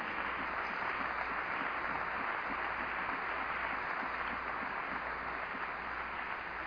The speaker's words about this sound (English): We have great men, wise men, capable men, efficient men that sit on these executive and general boards, and they are worthy of a great round of applause, of appreciation.